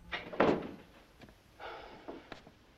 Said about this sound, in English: He goes back into his room, closing the door behind him. He sighs and leans against the door.